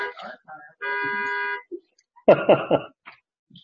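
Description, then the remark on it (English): A car horn, set off by someone accidentally leaning against the car's key fob, blares in one steady, buzzy tone for nearly a second, set among brief voice sounds and followed by a few short, rough bursts. “I leaned against my key.”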